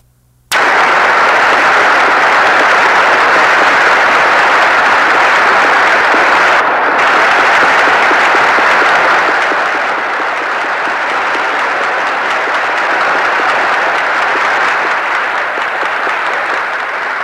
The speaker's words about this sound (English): Applause, of course, is for the president, and he is now on the speaker's platform, walking up to the battery of microphones near Speaker Sam Rayburn.